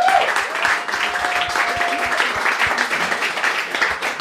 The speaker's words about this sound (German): Herzlich willkommen auf der Bühne. Ja, vielen Dank. Kleiner Applaus bitte für Raivadachi.